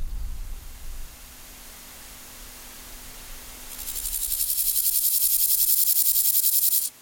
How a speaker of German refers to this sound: Und nur noch das Zirpen der Heuschrecken wird die Luft hier erfüllen, wenn die Nacht über das Tempelhofer Feld hereinbricht.